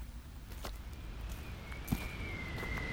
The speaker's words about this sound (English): The wind whistles sharply as it gusts along the narrow, solitary path winding down from the mountaintop.